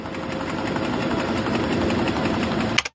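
A printing press produces a paper newspaper, running steadily with a dense mechanical rumble and rapid rhythmic clatter, loud, before cutting off abruptly near the end.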